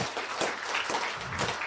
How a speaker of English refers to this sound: I'm just curious, by applause, if you used RFB, RFB and D, or Learning Ally through your school years, can we hear for you by applause?